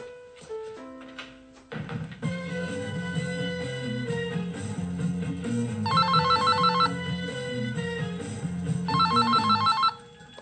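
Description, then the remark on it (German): A telephone in a living room rings with two short bursts of rapid electronic trilling, heard clearly over a steady melodic tune with a low bass line. No one speaks. “Ach, ja, warte mal, ich gehe rasch in den Flur mit dem Telefon.”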